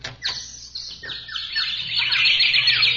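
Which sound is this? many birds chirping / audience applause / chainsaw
many birds chirping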